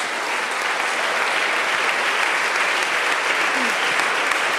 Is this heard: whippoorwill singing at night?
no